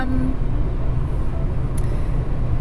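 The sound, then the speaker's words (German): Steady low rumble of road noise inside a moving car, a constant dense drone with no speech, broken only by a faint brief click partway through. “Ich bin im Auto unterwegs.”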